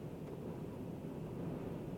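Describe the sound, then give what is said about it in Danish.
A steady, dense low roar of strong wind buffeting a moving electric car being test-driven on roads, constant and fairly loud throughout with no pauses, heard from inside the car without any voices. “Jeg tror, I kan, fordi det blæser temmelig kraftigt derude, det fyrer også temmelig meget, og de veje, jeg har kørt på, der har jeg altså virkelig haft mulighed for at afprøve den her bil.”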